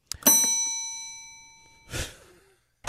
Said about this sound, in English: Did we just sell something, Cyrus? It just rang a bell.